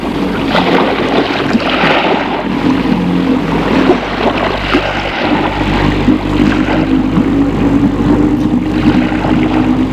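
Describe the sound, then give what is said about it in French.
A small boat with a white motor, in a harbour at Nice, France, is started and runs steadily and loud in the afternoon, a constant low drone with harmonic hum and some water splash noise throughout, no voices. “Un joli petit bateau, un moteur tout blanc. Ils embarquent et mettent le bateau en marche.”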